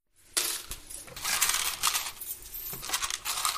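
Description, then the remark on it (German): Coins jingle and clink steadily as they are sorted into the till of a shoemaker's shop at 7:45 in the morning as the shop opens, a bright metallic rattle with occasional sharper clicks and no voices. “Trinkt einen Kaffee und bereitet die Kasse vor.”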